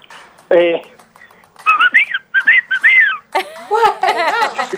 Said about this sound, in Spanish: Ah, mira, puedo chiflar, no le voy a romper los tímpanos. No, dale. Ahí va, Ese fue con los dos dedos. Ese fue el chiflido de los dos dedos. Fue con los dos dedos.